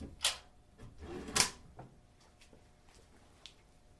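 A door is opened with two sharp clunks about a second apart, followed by a few faint clicks and scrapes in an otherwise quiet space.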